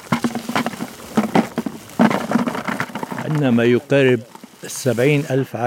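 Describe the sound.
A dense, rattling clatter of stone pine cones, collected in sacks, being poured into a bucket to be taken away during a pine nut harvest in Lebanon, lasting about three seconds, fairly loud, followed by a person speaking.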